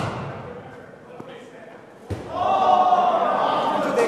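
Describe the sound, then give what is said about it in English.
At an indoor cricket batting cage in Union City in the Bay Area, a sharp cricket bat crack rings out midway through, followed by a burst of cheering and shouting. Chatter fills the background before it, with a fainter knock earlier on. “So one day I ventured in, and the sound of cracking and cheering greeted me at the door.”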